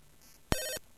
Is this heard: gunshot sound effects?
no